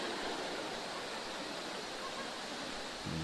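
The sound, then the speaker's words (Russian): Heavy rain pours through a tent pavilion in a dense, unbroken hiss that stays steady throughout, with a faint low hum rising only at the very end. “Удивительно то, что даже дождь сквозь пандал как-то протекает.”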